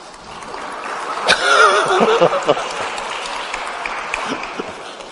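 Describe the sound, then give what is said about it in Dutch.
A crowd claps steadily throughout on seeing the event's coordinator, a dense wash of many hands. A brief swell of cheering voices rises early on, then the applause carries on evenly. “Ze zien jou en ze beginnen direct allemaal te klappen”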